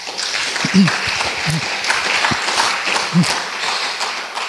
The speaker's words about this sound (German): Die Referentinnen und Referenten der Tagung, die ausnahmslos ohne Honorar für uns tätig sind. Ich denke, das verdient einen besonderen Beifall.